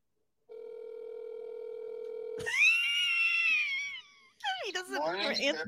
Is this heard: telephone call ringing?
yes